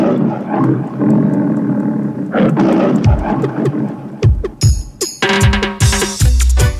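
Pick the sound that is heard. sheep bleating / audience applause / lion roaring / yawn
lion roaring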